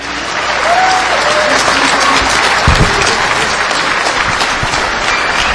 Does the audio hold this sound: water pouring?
no